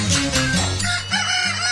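A rooster crows loudly, one long drawn-out call lasting over a second, with a steady low droning tone running underneath.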